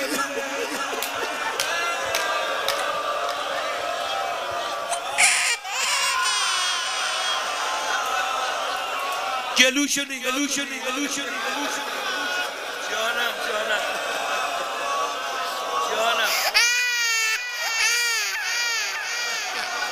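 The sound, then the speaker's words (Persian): An infant cries almost nonstop in loud, wavering wails, with a few short breaks for breath, over a dense background of voices and crowd murmur. “گریه شیر خاره جیگر آدم آب میکنه.”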